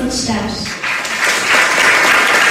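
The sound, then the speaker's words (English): A packed room of people at a council public hearing on banning plastic bags and straws applauds after a 12-year-old's plea to ban plastic bags: steady dense clapping that swells louder toward the end, with a murmur of voices mixed in at the start. “the room was packed. Everyone applauded after 12-year-old Kieran Schatz made a plea for banning plastic bags.”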